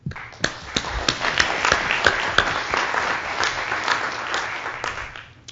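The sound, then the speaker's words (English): A crowd applauds for the staff, presenters and attendees of the LISA community: a steady dense patter of many hands clapping at once with a few sharper claps standing out, sustained for several seconds before starting to thin. “So I'd like you to join me in a round of applause for all the staff, presenters, and attendees, both past and present.”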